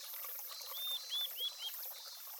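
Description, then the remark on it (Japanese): A steady, hissing wash of splashing water spray fills the scene, with four quick high chirps, likely a bird, rising over it midway. No one speaks. “水しぶきが気持ちいいね。”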